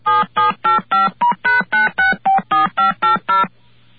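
touch-tone telephone dialing tones

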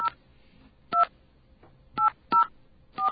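telephone number being dialed

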